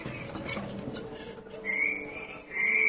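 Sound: frog croaking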